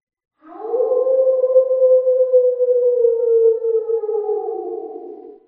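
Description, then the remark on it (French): A single long wolf howl carries from the distance, from the direction of the forest: a steady mournful tone that holds for about five seconds before slowly sinking in pitch and fading, with no other sounds around it. “On l'entend hurler là-bas dans le lointain.”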